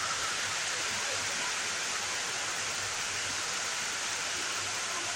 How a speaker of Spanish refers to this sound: La lluvia es protagonista por segundo día consecutivo en la Marina Alta.